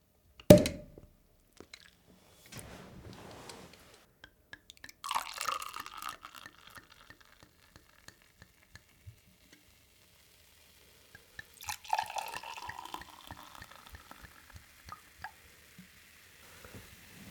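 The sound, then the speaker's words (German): A bottle of prosecco opens with a sharp pop, then the sparkling prosecco is poured into glasses in two separate pours, each a gurgling fill with a fizzy hiss; crackling bubbles settle in between, with no talking. “Sitzen hier gerade und haben uns eine Flasche nicht Sekt, sondern Prosecco aufgemacht.”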